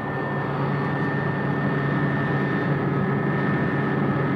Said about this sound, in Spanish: que en este momento se asoma sentándose justo en el bordillo, en la puerta del helicóptero que acaba de ser abierta en este instante. Se detiene el helicóptero unos segundos para que él pueda realizar su trabajo.